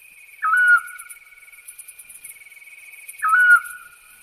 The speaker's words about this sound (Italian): Il canto dell'assiolo è monosillabico, con tonalità metalliche che lo rendono molto diverso dal gufo comune, che pure ha una vocalizzazione con una struttura monosillabica ma molto più cupa.